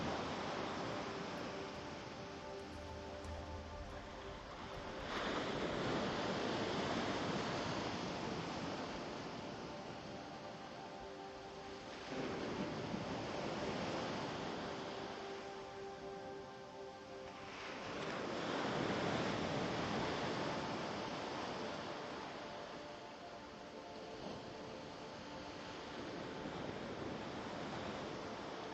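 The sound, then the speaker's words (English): Ocean waves break on a beach in slow, steady surges, each swelling and washing away every several seconds, with a soft sustained drone underneath and no voices. “Listen and relax as the waves come one after another on the beach.”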